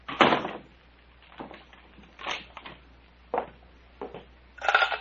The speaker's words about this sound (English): And, Doctor, lock the cabin door.